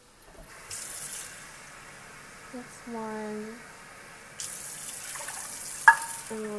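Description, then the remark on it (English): Water runs from a tap in a steady hiss, filling a measuring cup with 1 1/4 cups of water for cooking. It stops briefly and then pours again, with a short spoken word and a small clink in between. “How much water? I didn't think about this. Oh, man. Okay, 1 1/4 cup water.”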